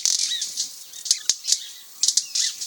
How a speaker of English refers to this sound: With loud wing snaps, a flurry of males flit rapidly back and forth from one slender, bare sapling to another. It's like a busy avian pinball game a foot above the ground.